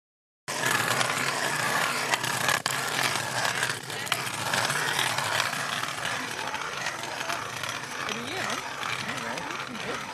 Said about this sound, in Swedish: Men deltagarna sprider ut sig runt honom och borrar sig ner genom den nästan 80 cm tjocka isen. I hopp om att få upp det röda guldet ur djupet, fjällrödingen.